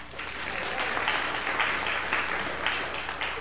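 A church audience on Father's Day applauds steadily for a few seconds for a couple's 40th wedding anniversary, a dense, even wash of clapping hands with no voices standing out above it.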